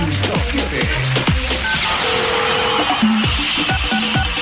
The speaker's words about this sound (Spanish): Ah, teléfono.